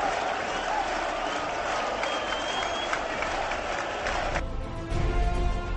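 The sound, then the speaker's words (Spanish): A dense, steady roar of the football crowd at the Heliodoro Rodríguez López stadium at half-time of the Tenerife versus Las Palmas Canary derby, Tenerife leading 3-0, with applause, whistles and scattered cheering blending into a continuous wash of noise, shifting slightly in tone toward the end. “Así está el Heliodoro, Juanjo. Descanso en el Heliodoro, Tenerife 3, Las Palmas 0. Escuchen.”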